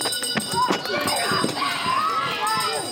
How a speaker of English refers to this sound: The unmistakable noise of joyful parents running out of the playground and back to their car before their children can follow them.